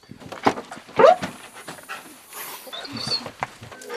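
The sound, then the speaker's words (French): A canicross dog pants in quick bursts and lets out short, high whines, sounding restless and unhappy, with faint background noise around it. “Oui, c'est pour vous montrer comme il n'est pas content.”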